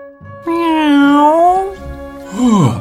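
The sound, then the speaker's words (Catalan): A voice imitates a cat with a long, wavering meow that rises and falls in pitch, followed by a shorter, sharply falling second meow, both loud and alone. “Només era un gat.”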